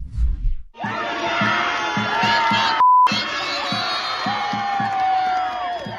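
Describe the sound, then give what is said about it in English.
A loud, dense crowd of protesters at UCLA cheers and screams nonstop while a piñata of Israeli Prime Minister Benjamin Netanyahu is beaten. High shrieks rise over the roar, with a steady rhythmic thumping underneath and a brief electronic beep cutting in midway. “You're going to see one guy come up, grab the Netanyahu piñata and just start punching it, beating it, while everyone cheers.”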